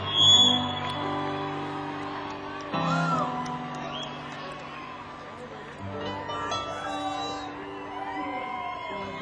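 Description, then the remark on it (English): An audience in LA cheers and whoops for a band's singer, a dense wash of crowd noise with high, rising shouts poking through, swelling near the start and again after a brief dip. “Give it up for ….”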